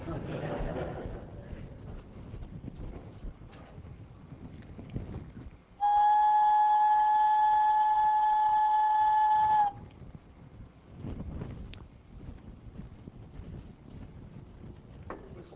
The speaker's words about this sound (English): sound waves that I created by blowing a big flute and a smaller flute